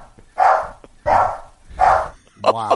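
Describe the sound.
A recorded drop of the dog Bear barking three times, loud, in a slow, evenly spaced rhythm, followed by a brief voiced sound at the very end.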